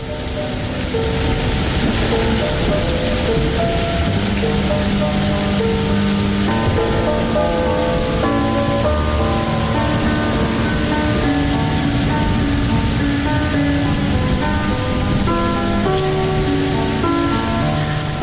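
Steady rain patters on a hard surface, a dense continuous hiss at a constant level, with soft sustained musical notes drifting underneath and no voices.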